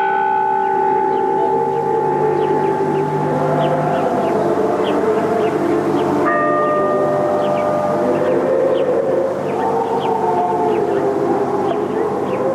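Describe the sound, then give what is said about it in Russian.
Gethsemane church bells, in an authentic recording, ring steadily and loudly, their overlapping tones blending into a continuous, resonant wash of sound with humming overtones, and the pattern of strikes shifts partway through. “Звучат гефсиманские колокола.”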